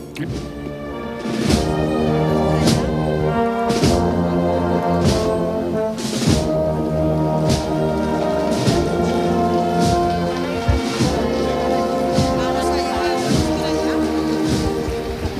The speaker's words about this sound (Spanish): Porque la calle Arenal de Madrid, una de las calles adyacentes a la Puerta del Sol, ahora mismo es una riada. Hay multitud de personas siguiendo este paso. Vamos a tratar de escuchar a la banda en directo.